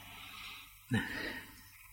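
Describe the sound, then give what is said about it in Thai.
A forceful, heavy breath, breathing harder to change the breathing rhythm and withdraw the mind from meditation: a sharp, loud onset about halfway through, then a long, noisy rush of air that fades gradually. A softer, airy breath comes before it. No talking. “ายใจแรงขึ้นนะเนี่ยจิตก็ถอนเองแล้ว”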